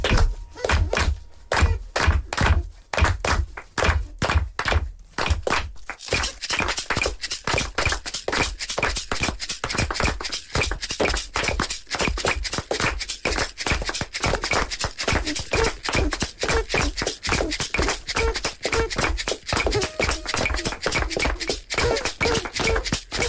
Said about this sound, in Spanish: Molt bé, ara tots palmes.